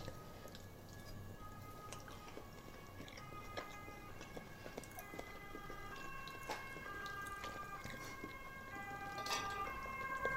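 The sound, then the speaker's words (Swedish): A faint siren wails in the background with steady, shifting high tones, while wet chewing and clicking mouth sounds from a first bite of food crackle over it throughout. No one speaks. “Och redan vid första tuggan så kunde man höra att sirenerna i bakgrunden.”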